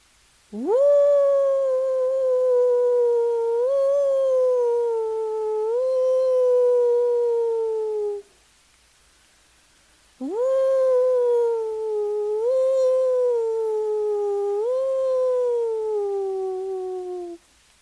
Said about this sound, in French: Il marche loin de sa meute pour aller supplier la lune. Une des grandes déités des Indiens, hurlant pendant des heures à la lune et la suppliant d'amener la paix aux coyotes.